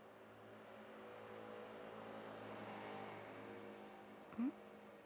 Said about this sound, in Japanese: ごめん、近くの道路ちょっとやかましいバイクが通った。たまにいるんだよね、ああいう言い切ったやつ。